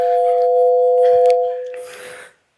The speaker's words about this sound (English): Pulsars are rapidly spinning neutron stars, and they steer up space-time at a constant motion, should just be a sine signal. So that's our sine wave.